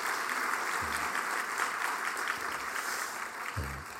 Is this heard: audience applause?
yes